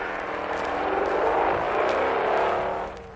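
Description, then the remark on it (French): The motorcycle of an employee from downstairs revs hard and roars off at speed, a loud, sustained buzzing whine that climbs in pitch before easing slightly at the end. “Et parfois, le départ en trompe de la moto de l'employé d'au-dessous.”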